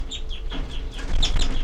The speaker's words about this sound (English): All birds are calling now.